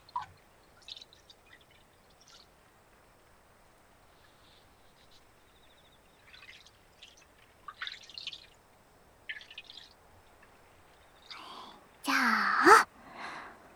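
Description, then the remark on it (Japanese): Quiet water sounds from a footbath of fizzy carbonated hot spring water, the Matatabi spring piped from a small source in the inn's backyard: scattered small drips and light trickles, then a brief louder slosh of water near the end. “血流も改善する炭酸泉なんですって。足湯にもってこいのお湯ですね。”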